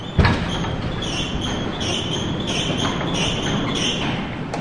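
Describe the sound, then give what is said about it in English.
A heavy fire door is opened: a sharp clunk of the latch, then a drawn-out metallic creak and scrape over a steady, noisy background rumble. “Now he's about to open a fire door.”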